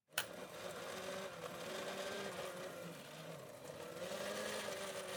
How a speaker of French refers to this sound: Jetez-le dans le mixeur et appuyez sur le bouton rouge.